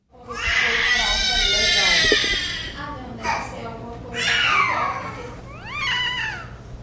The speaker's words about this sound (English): Many were born with severe microcephaly, a much smaller head than normal when brains don't develop properly. And these newborns have a distinctive plaintive cry. NPR's Rob Stein recently sent this sound from Brazil.